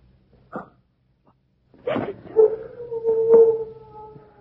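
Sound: dog howling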